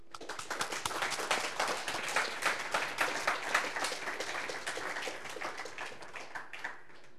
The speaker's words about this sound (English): So let's have a round of applause for our students, which are here or not here.